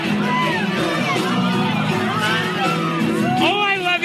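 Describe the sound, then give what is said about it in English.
A loud, dense crowd roars and chatters continuously at a packed concert, with excited voices shouting and whooping over the din, recorded in a fan's phone video; the fan shouts to the singer, "oh my God, I love you so much." “And literally like I drop the camera and I just say to her, oh my God, I love you so much. Like, and you can hear it.”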